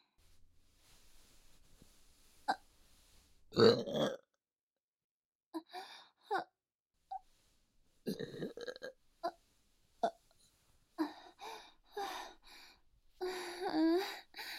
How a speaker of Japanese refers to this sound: あなたの我慢汁ゲップ出させていただきますわね。